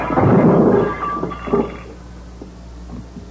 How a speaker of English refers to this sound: So you smashed the lamp.